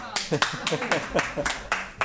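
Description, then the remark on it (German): A school class applauds a student's 14 pull-ups during a biology lesson, with brisk, uneven clapping, fairly loud, for about two seconds, with some voices mixed in underneath. “14 Klimmzüge schafft er, und weil heute Besuch da ist in der Klasse, wird am Ende geklatscht.”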